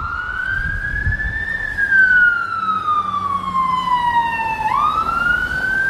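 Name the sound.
emergency vehicle siren passing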